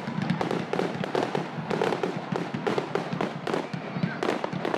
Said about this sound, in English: Now, podcast dog, Ginger Dog, Ginger Danger Dog, doesn't like the fireworks too much, so this is a very stressful time of year for the puppy.